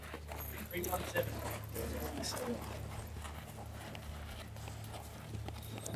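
Hooves clip-clop steadily on a hard surface as a young horse, a Piero colt out of Celebrity Queen born on the farm, is walked along, over a constant low hum and background murmur.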